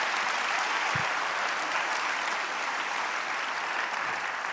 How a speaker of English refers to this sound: Somebody who believes it, clap their hands in this place.